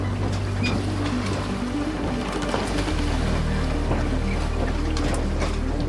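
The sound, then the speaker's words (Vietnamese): Steady ocean waves wash around Noah's ark drifting on vast floodwaters, with a low continuous rumble, creaking hints and broad surf noise filling the scene at a constant, fairly loud level. “Mọi sinh vật trên mặt đất đều bị cuốn trôi, chỉ còn lại con tàu của Noah lênh đênh trên biển nước mênh mông.”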